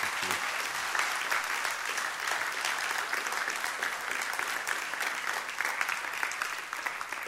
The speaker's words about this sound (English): And let's give these guys a round of applause. We love them.